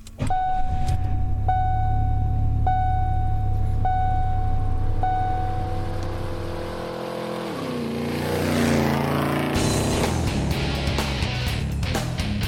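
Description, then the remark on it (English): A car exhaust rumbles with a deep, steady idle while a repeating high chime beeps about once a second, then the engine note drops and swells in a brief rev. “Let's hear your exhaust and win $250.”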